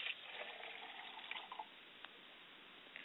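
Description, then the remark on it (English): Liquid is poured out as a libation to the south in a soft, steady trickle, with a few small splashes and drips near the end. It is quiet, and no one speaks. “I pour libation to the south, and we all say, Ashe.”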